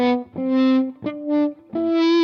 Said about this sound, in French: Enfin, dernière utilisation, et là évidemment c'est un tout petit peu plus casse-gueule, c'est ce qu'on appelle les tone swells, c'est-à-dire à la manière des volume swells où on remonte son potard de volume à la main.